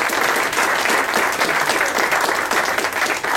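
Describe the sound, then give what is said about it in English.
A crowd claps steadily, a dense, sustained wash of applause with no pauses, fairly loud, continuing throughout. The applause is for a retired Newington police officer whose wife is the Teacher of the Year. “So he too deserves a round of applause for the fact that his wife is the Teacher of the Year.”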